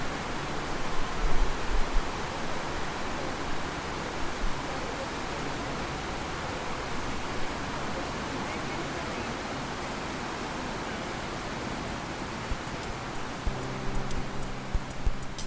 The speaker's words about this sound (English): though the space is now filled with the calm sounds of flowing water